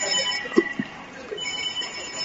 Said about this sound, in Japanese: 電話かかってきた。